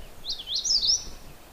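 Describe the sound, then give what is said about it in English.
A magnolia warbler sings a short, sweet phrase of a few quick high notes that run together within about a second, clear, with no voices. “And magnolia warblers are kind of blue-gray on the back.”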